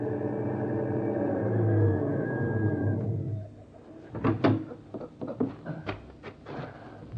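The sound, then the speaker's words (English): A heavy truck designed for hauling livestock, carrying two men, drives up at a small dairy farm a few miles out of Des Moines; its engine rumbles for a few seconds, then cuts off, followed by a series of sharp clunks and knocks like doors and metal latches. “is walking up to the house when two men drive up in a truck designed for hauling livestock.”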